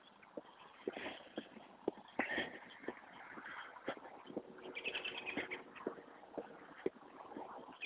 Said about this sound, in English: Robins chasing themselves around today. I wonder why. This isn't robin season. Not quite sure why.